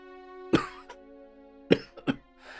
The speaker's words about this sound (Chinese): 王阳明茫然不知，咳嗽着问道